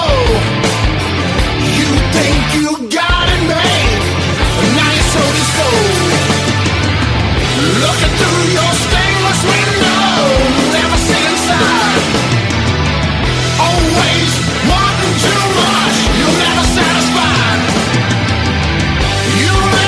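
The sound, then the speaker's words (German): A bluesy rock song plays at full, steady volume, with a prominent organ holding sustained chords over driving drums, bass and guitar. No voices talk over it. “Da war jetzt auf jeden Fall die Orgel wieder sehr präsent.”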